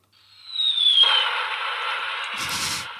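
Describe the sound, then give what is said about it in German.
A firecracker sound effect: a thin descending whistle gives way to a sustained crackling hiss, then a louder burst with a low rumble near the end. Fairly loud, with no voices. “Das ist ein Knaller, das stimmt.”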